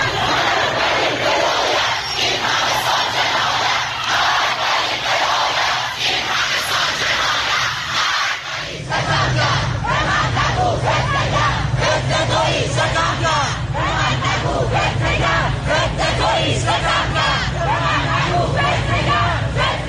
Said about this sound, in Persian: معترضان به شلیک موشک پدافند هوایی سپاه به هواپیمای مسافری خطوط هوایی اوکراین عصر روز شنبه در چند شهر از جمله تهران، اصفهان، همدان، رشت و ساری تجمع کرده و اقدام به سر دادن شعار کردند.